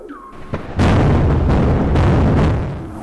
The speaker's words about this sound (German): Denn manchmal gibt es auch überraschende Vorfälle, zum Beispiel die kollidierenden Eisberge in der Antarktis.